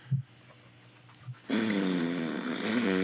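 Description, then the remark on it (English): A couple of soft low thumps, then a loud, sustained buzzy fart noise with a low, wavering pitch that sputters on for over a second and a half. “To paraphrase, it's a fart noise.”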